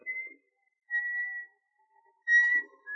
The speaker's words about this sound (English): He missed the comforting companionship of his dog as he walked through the shadows of the spruce trees and began to whistle to keep up his courage.